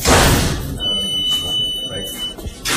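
A heavy prison door clanks shut with a loud metallic thud, followed by a steady high electronic beep, then another burst of clattering at the end, in the youth detention section of the Bois d'Arcy prison.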